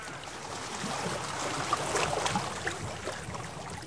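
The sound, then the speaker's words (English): Water laps gently and steadily against a small rowboat drifting on a lake, a soft continuous wash with faint trickles and occasional light splashes, with no voices. “I'm on the lake. The lake? I take a boat out and drift.”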